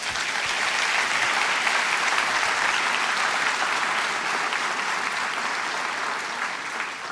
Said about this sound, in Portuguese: Vamos aplaudir ao nosso Deus.